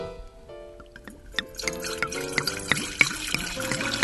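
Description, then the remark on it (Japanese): Liquid is poured steadily into a glass for a toast, a gurgling, splashing stream whose pitch rises as the glass fills, with small clinks and drips throughout and no talking. “まあいつものように乾杯をしたいと思いますので、ちょっとお次させていただきます。”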